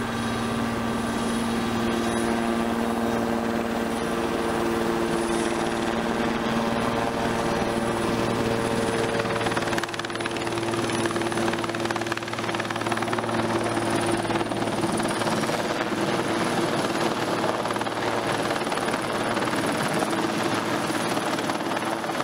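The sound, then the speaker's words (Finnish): A Super Puma helicopter, call sign Hotel Victor Golf, flies at night to an accident area with a steady, loud rotor thrum and engine whine, strong low tonal hum and a high turbine whistle, holding constant throughout with no voices. “Matkallaan superpuma laskee lennonjohtaja Matti Jokisen Silja Euroopalle, mikä helpottaa lentotoiminnan koordinointia huomattavasti, sillä helikoptereita saapuu alueelle koko ajan lisää.”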